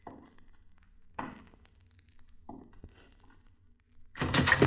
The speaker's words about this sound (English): Wolf, kick open that door. If it ain't open, shoot it open.